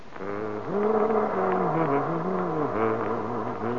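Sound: bus engine running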